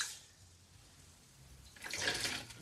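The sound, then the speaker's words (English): Soft watery swishing and sloshing as rice is washed by hand in a bowl, mixed with the fingers to rinse out the starch, quiet at first and then a louder, splashier burst of stirring near the end. No one speaks. “So I like to kind of mix it together in the bowl with my fingers.”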